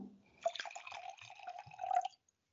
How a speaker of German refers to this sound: Ja, dann würde ich sagen, ich schenke dir jetzt einfach mal ein Glas Weißwein ein. Ich habe ein Chardonnay im Angebot.